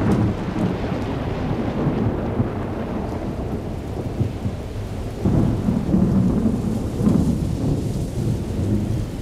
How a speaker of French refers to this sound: Il y a de l'orage en ce soir du 14 juillet 1994 à Aunay, ville de l'agglomération genevoise, coincée entre le Rhône au nord et la rivière l'Aire au sud. La pluie rafraîchit un peu l'atmosphère.